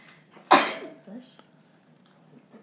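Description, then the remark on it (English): A single sharp sneeze bursts out loud, then fades quickly, leaving faint background noise and a soft murmur of voices behind it. “Bless you.”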